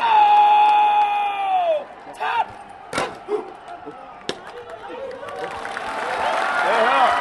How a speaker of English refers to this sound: This daily ritual draws hundreds of Pakistani spectators on their side of the border, shouting at hundreds of Indians crammed into bleachers on their side.